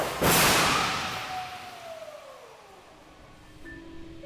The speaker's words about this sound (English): I head to the other end of the 600-foot runway to watch a perfectly fine 2019 Corolla meet an untimely end at 40 miles an hour.